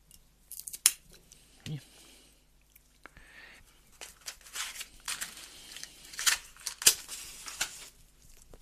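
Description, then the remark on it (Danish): A cigar tip being clipped with a cutter: a few sharp, crisp snips spread over several seconds, with soft rustling and handling noise between them and no talking. “Jeg klipper lige en.”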